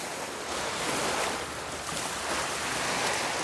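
Steady, broad wash of sea surf rolling continuously, with gentle swells in loudness as waves break and recede; moderately loud, with a light breath of wind and no voices.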